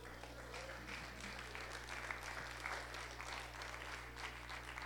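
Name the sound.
audience clapping hands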